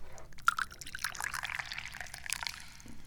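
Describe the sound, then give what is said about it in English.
Hot Dahong Pao tea pours steadily into a cup, a bright splashing stream that trickles and gurgles for a few seconds with no one speaking. “Yeah, it means it's time to pour the tea.”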